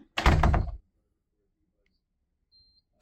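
A door entry lock releases with one loud, close mechanical clunk as the door starts to open, followed by near silence and a faint, brief high beep.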